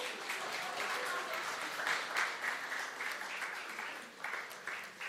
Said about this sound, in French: Voilà, merci. Merci beaucoup, on peut les applaudir.